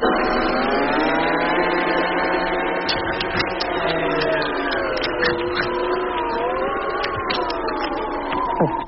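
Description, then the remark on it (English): A large kitchen blender runs steadily and loudly for the whole stretch, blending a watermelon about the size of a head, its motor whine holding a droning pitch that wavers slightly, with scattered clattering knocks and grinding bursts over it. “One watermelon, about the size of your head. And one large kitchen blender.”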